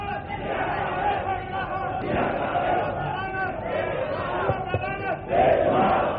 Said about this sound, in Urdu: میرے بھائیوں, بیداروں کے بجائے میری بات کو توجہ کریں, ٹھیک ہے, نعرے جتنے مرضی لگائیں لیکن جب میری بات سمجھ میں آئے پھر نعرہ لگائیں, ٹھیک ہے.